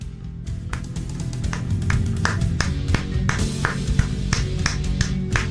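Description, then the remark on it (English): Steady, brisk hand clapping for LeBron James, a quick irregular stream of sharp smacks from a few people, continuing for several seconds over a low background hum, with no one talking. “Just clapping for greatness.”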